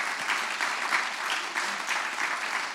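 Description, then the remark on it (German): A crowd claps steadily, a dense, even patter of many hands that holds at a constant level throughout with no voices breaking through. “Jetzt dürfte Gott mal einen Applaus geben, weil sein Evangelium funktioniert.”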